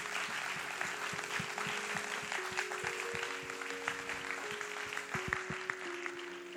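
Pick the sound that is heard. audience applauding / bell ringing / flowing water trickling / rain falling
audience applauding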